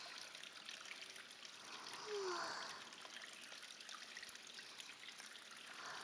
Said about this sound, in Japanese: ここのシャワー、とっても気持ちいいですね。あんまりきつくなくて。